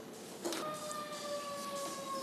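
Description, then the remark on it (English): An emergency siren wails steadily with a sustained, slowly shifting tone, fairly faint against a low background hum, with no one speaking. “We might be saying another prayer now that we hear the sirens.”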